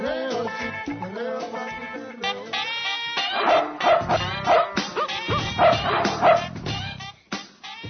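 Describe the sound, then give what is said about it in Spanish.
Several dogs bark and yip in quick, overlapping, loud bursts, with high-pitched yelps mixed in and a brief whine near the end, without any talking. “Ay, pues con tanto perro ya me dieron ganas de un buen perreo, mami, perreo.”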